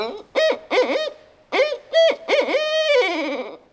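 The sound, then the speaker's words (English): A series of clear owl hoots, several rhythmic calls in two groups followed by a longer wavering trill, loud with no talking. “And owls, too.”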